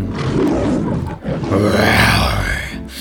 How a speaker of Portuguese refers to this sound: Solta o rugido, que agora é leão.